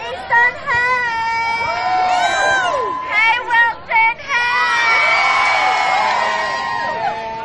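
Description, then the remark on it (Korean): A large crowd of high school students at a protest rally in the US shouts and cheers loudly as their schools' names are called from the podium, with overlapping high-pitched whoops and screams rising and falling in waves, interrupted by a few brief dips before swelling again. “연단에선 학생들은 각 지역에서 도착한 고등학교의 이름을 외쳤고 그 학교의 학생들은 크게 소리를 지르며 환호하기도 했죠.”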